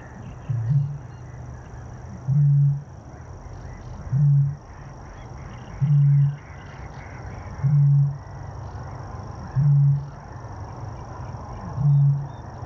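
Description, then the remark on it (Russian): A male great bittern calling: seven deep, hollow booms repeated at a steady pace about two seconds apart, fairly prominent over a constant rushing background of outdoor noise. “предлагаю еще раз послушать самца, чтобы закрепить знания про голос этой птицы, чтобы радиослушатели, самое главное, могли узнать и определить эту птицу в дикой природе.”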